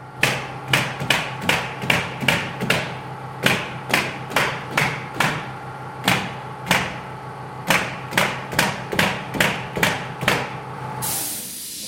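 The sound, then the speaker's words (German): Nail guns fire in rapid bursts of sharp, percussive cracks, over twenty shots in quick clusters with short pauses, against a steady mechanical hum; a hiss of air ends the sequence. On a building site in Zollikofen where a four-storey timber residential building, about 13 by 50 metres, is being built for a school for the blind. “Das Geräusch von Nagelpistolen, das wir hier hören, ist typisch für eine Baustelle, wo ein Holzhaus entsteht.”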